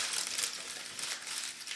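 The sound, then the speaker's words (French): Continuous crinkly rustling, like paper or plastic being crumpled, with small uneven bursts throughout and no voices. “Il y a un footballeur qui fait un froissement de peur.”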